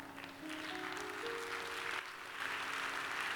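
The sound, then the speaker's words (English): An audience claps steadily for several seconds, a dense, even wash of applause that swells slightly toward the end, with a few low sustained tones humming underneath. “Now, thank you for clapping, even though I didn't ask you to clap.”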